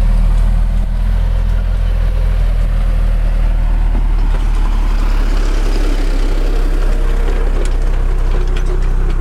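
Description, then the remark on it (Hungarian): A tractor pulling two empty trailers rumbles loudly past close by, its heavy low engine drone steady throughout, with a clattering, rattling din from the two empty trailers swelling midway as they roll by. “Itt egy traktor megy el mellettünk.”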